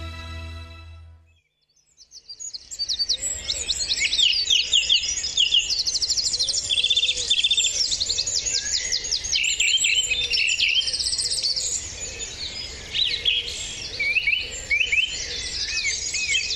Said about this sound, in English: Well, that beautiful bird song was recorded at Wicklow's East Coast Nature Reserve by our next guest, because the early hours of this Sunday, May the 5th, will see Ireland's airwaves come alive with a bird song for International Dawn Chorus Day.